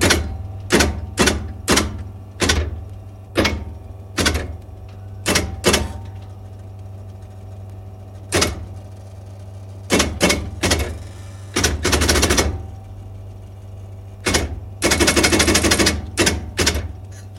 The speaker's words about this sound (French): S'il est occupé par un autre travail ou s'il a beaucoup de trafic, il peut se servir du clavier de la perforatrice qui, à ce moment-là, avec un clavier machine, vous avez les lettres qui sont transcrites sur une bande perforée en alphabet morse.